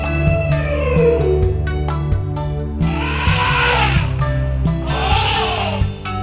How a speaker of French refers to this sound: entrons dans la jungle et qu'est-ce que nous trouvons? Un éléphant géant, très marrant.